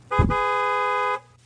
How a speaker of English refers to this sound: Honk your horn right now if you're listening in your car. Just honk your horn. Just do it. Honk your horn. Seriously.